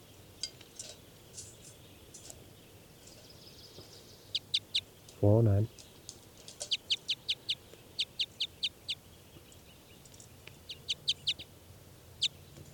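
Captive birds call back and forth in bursts of short, high, sharp chirps. Midway through comes a single lower, harsher call with a buzzy tone.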